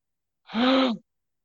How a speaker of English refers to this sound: Now, I can just imagine there being an audible gasp. An intake of breath.